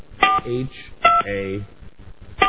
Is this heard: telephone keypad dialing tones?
yes